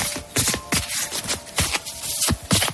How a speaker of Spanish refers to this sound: Coge una carta, mírala y vuélvela a dejar en su sitio. Después de barajar las cartas comienzan todo tipo de variantes para terminar en el mismo resultado.